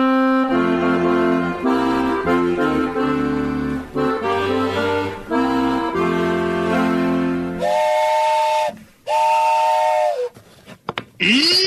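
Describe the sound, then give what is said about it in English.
A steam train whistle sounds a long, loud chord, then several shorter blasts with bursts of hissing steam between them, dominant with no voices. “That's where Daddy's meeting us, just as soon as his train gets in.”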